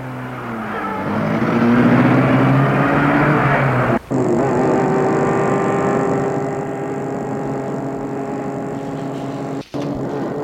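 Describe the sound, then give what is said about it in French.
A car engine is started up again, its pitch climbing as it speeds up and then settling into a steady drive, with two abrupt brief breaks in the sound and no voices. “Et il remet la voiture en route.”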